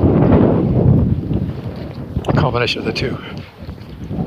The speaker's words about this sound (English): Dies down, a bit of a gust. It's coming straight out of the north. Skies are all clear up there. I'm not quite sure. There's a cold front blowing in up there. There's a low behind me that's drawing the wind in. Or a high pushing it out.